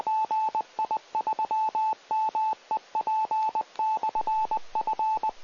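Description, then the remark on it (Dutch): A radio repeater sends out rapid clusters of short, steady-pitched beep tones, grouped in bursts like a coded pattern, loud and clear over a faint background hiss with no talking. “En dat was de repeater eventjes.”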